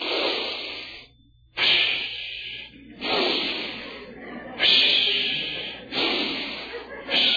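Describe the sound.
A voice imitates deep, slow sleep breathing of a person in deep sleep, breathing in then out, with long airy inhales and exhales repeating in a steady rhythm of about five breaths, fairly loud, with no other sounds.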